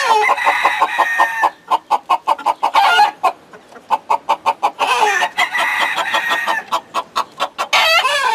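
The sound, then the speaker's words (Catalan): Hens cluck steadily, with rapid repeated bursts of clucking broken by a few longer, drawn-out squawks, a busy chorus of several birds with no talking. “Gros com és un dia em pot xafar les gallines.”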